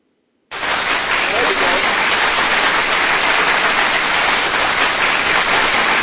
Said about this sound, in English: Round of applause. I like that.